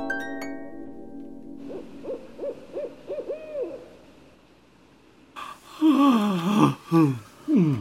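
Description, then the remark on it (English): A series of soft, evenly spaced owl-like hoots, then a person yawning loudly, a long breathy yawn with a falling, wavering voice that ends in a few sighing gasps. “don't yawn, …. You've started me off now.”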